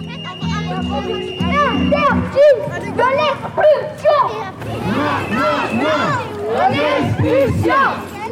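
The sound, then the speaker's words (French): A street demonstration crowd in the Minimes neighbourhood on 21 April 2021: many voices overlapping in a loud, continuous babble, with shouts and raised calls rising out of the mass throughout. “En fond, vous entendez une manifestation qui a eu lieu dans le quartier des Minimes le 21 avril 2021.”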